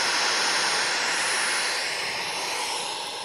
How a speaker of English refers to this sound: In life, just the noise of life, it's a lot of static, a lot of noise.